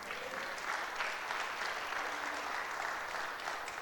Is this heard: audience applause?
yes